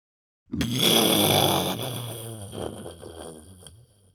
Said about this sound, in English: Nearby thunder.